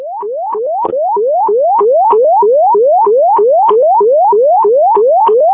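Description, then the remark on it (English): Crystal Lake fire dispatch alert tones for ambulance 353 at Crystal Lake Fire Station 3, on a diabetic call: a loud, steady run of rising electronic whoops, each tone sweeping upward in pitch and repeating quickly, about two per second, with no voices over them. “Crystal Lake 353, did you need tones for this? Yes, please, if you have tones.”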